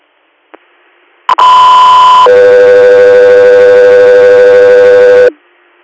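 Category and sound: signal or alarm, radio dispatch alert tones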